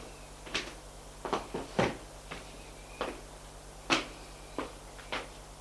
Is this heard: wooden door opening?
yes